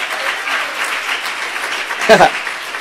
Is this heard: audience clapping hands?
yes